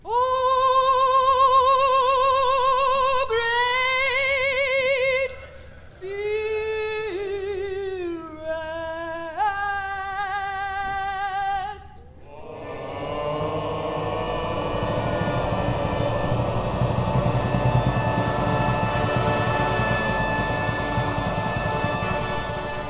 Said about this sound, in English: A spiritual chant to lift the mind onto a higher plane of peace and tranquility.